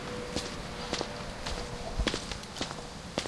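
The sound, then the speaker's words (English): Foley footsteps tread at a steady walking pace, about six distinct heel-and-toe impacts over roughly three seconds, moderately loud above a low, constant background hiss. “Driving all up on my Foley footsteps.”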